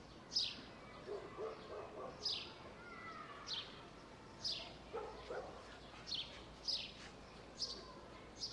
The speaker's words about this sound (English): Can you hear the playful barking of a dog?